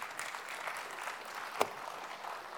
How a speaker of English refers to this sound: So listen, go ahead and clap again.